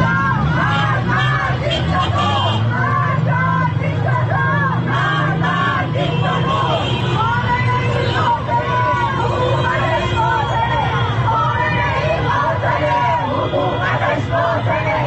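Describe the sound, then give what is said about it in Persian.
A large protest crowd in Tehran shouts slogans against government officials, including the leader of the Islamic Republic, a dense, continuous roar of many voices with rhythmic chanting rising and falling, steady and loud throughout, with faint traffic underneath. “در این اعتراض‌ها شعارهای علیه مقام‌های حکومتی و از جمله رهبر جمهوری اسلامی سر داده شد.”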